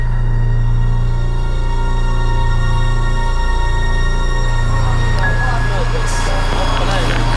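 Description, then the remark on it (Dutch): A steady, loud low rumble of fighter jets flying high overhead outside a hospital, a constant droning roar with a faint whine, while indistinct voices murmur underneath in the second half. “Naar straaljagers die je hoog over ziet komen. Je hoort ze ook.”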